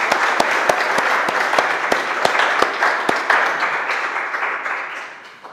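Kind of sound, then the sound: crowd, audience applause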